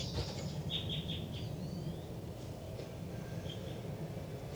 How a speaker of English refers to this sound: They're recording in the cell now. Recording and pointed right at the nest. Trying to get vocalizations of the baby birds.